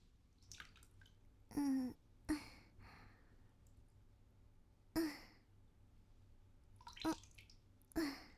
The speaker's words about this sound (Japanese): 目を閉じたまま、足にかけられる水音を聞いていると落ち着いてきますよ。ほら、だんだんと心地よくなってきますから、ね。